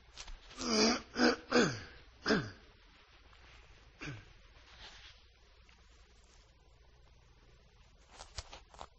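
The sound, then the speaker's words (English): A person clears their throat several times in quick, rough bursts, followed by a quieter rasp and faint noises. “And anyone have a comment on that while I clear my throat here?”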